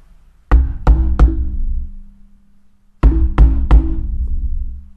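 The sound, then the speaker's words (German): Two sets of three firm knocks on the glass door of a shop, loud, with a resonant boom after each rap and a short pause between the groups, as people at the door want to get in; no one speaks. “Und das tat fast physisch weh, das Klopfen.”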